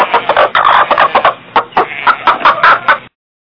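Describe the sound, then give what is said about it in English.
Two pet chickens, Esther and Eunice, cluck in a quick, busy burst of short repeated calls as they come into a home, fairly loud, lasting about three seconds before stopping abruptly. “Okay, my chickens are here.”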